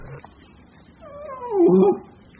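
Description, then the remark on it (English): A single drawn-out cat meow rises, swells loudest near its end and then breaks off, against an otherwise quiet background. “Calm down, boy. Ignore that cat.”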